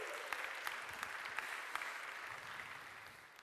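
A group of people applauds steadily for a few seconds for someone's birthday, a dense patter of many hands clapping with a few sharper claps standing out, tapering slightly toward the end.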